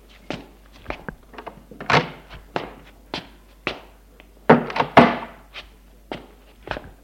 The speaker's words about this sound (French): Une demi-heure plus tard, sa mère frappe à sa chambre.